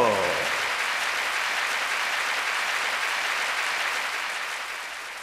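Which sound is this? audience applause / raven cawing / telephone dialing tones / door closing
audience applause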